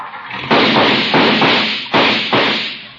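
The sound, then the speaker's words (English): An old car sputters noisily and lets off a series of loud, irregular backfire bangs, about five sharp pops in a few seconds, harsh, with no talking. “My, my, what a noisy car.”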